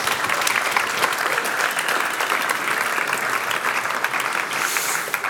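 An audience claps steadily for several seconds, a dense, even wash of many hands with no voices rising above it, holding a constant loudness until it tapers slightly at the very end.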